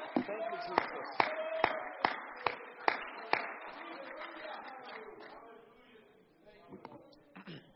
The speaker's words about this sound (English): Why don't we clap our hands as we're seated in the presence of the Lord. Amen.